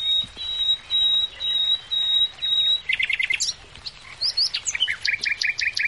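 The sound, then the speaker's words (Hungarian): A male common nightingale sings its territorial and mate-attracting song, opening with a long run of sustained whistled notes, then shifting into rapid repeated trills and sharp chirped phrases, loud and clear with no talking. “És az erdők, ligetek, parkok, gazdag ajnövényzetű kertek világában már szól a hímek területfoglaló és párkereső éneke.”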